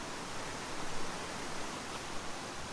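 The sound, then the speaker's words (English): A rushing river running beside a road roars steadily, a dense hiss like static with no distinct gurgles or splashes, filling the whole stretch at an even, moderate level with no voices. “The river noise is like a static, no burbling music, just a thrash of white noise that stretches out like a tablecloth beside the road.”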